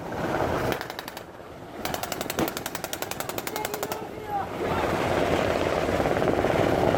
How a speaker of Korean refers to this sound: 훈련 시작을 알리는 지휘관의 외침이 울리자 테러범 역할을 맡은 배우들이 배 위에서 바다를 향해 일제히 사격을 시작했습니다.